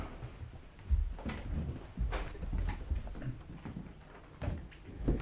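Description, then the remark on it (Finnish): Muffled footsteps thud on the far side of a closed door after a button is pressed, a handful of irregular heavy steps drawing nearer against a quiet background hum, with no one speaking. “Kuuletko? Askelia.”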